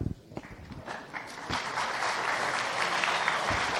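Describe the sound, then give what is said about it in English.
An audience at a tech talk on SaltStack breaks into applause as the next speaker is introduced, starting with a few scattered claps and swelling into steady, dense clapping from a crowd. “Wow, you haven't even done anything and you get applause.”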